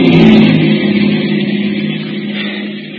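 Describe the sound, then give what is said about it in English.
A police prowl car coming across a bridge drives past, its engine humming loudly at first and then gradually easing off as it moves away. No one speaks. “It's a prowl car, all right.”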